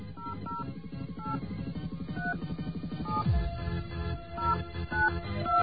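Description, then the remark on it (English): A rapid series of short two-pitch telephone keypad beeps dials the predetermined access number of a prepaid calling card, one tone after another, over a steady humming dial-tone background with no one speaking. “Okay, we're going to call the special predetermined number.”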